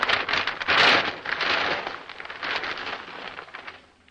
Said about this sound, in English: A thunder drum being struck continuously. And some heavy wrapping paper being crushed into a ball in front of the microphone.